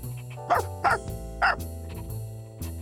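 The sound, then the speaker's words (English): A dog barks three times in quick, uneven succession, sharp, over a steady low background hum. “But there's a dog here. Go away!”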